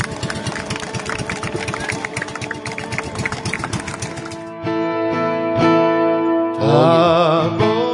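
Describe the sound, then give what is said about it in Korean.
The engine of the boat Remnant No. 2 chugs steadily with a fast, rhythmic throb for several seconds as the boat heads toward the sea, fairly loud, then gives way to sustained tonal music. “저 보트가 이제 바다를 향해서 예, 이제 이어지고요.”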